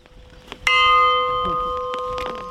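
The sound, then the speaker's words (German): A single entrance bell at a garden, struck once with a clapper to start a tour, rings out loudly, its bright tone sustaining and slowly fading over a couple of seconds amid the faint patter of a hail shower on an umbrella. “Zum Start der Tour wird die Glocke am Eingang mit einem Klöppel geschlagen.”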